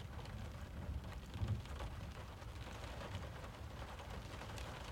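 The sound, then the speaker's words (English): Steady, dense rain hisses continuously, with a low thunder rumble swelling briefly in the background before fading back under the downpour. No voices. “The storm's not letting up and your place is warm.”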